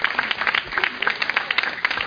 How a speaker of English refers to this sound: Everybody give Manasseh a clap offering. He's in heaven. He can hear you.